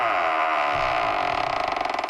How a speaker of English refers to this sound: Let's open up the vault door.